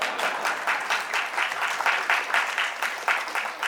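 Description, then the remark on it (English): An audience breaks into steady applause, many hands clapping at once in a dense, crackling wash that holds at a fairly even, moderate loudness throughout. “You're supposed to clap when I say that.”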